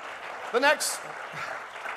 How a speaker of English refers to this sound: Somebody clap your hands unto the Lord.